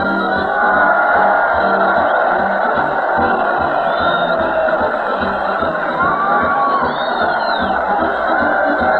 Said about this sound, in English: Listen to that crowd cheer Fred Allen as he leads the parade down Main Street to the Old Town Hall.